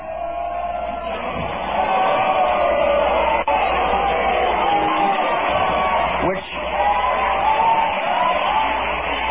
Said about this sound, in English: Yeah, that's not a few scattered boos in the crowd, is it